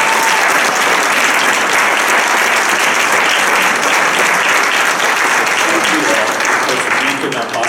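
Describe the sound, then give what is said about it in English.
A crowd claps steadily for the music team, communion servers, prayer team and host, a dense, loud wash of many hands applauding without pause for several seconds before tapering slightly at the end. “So can we just give them a nice round of applause?”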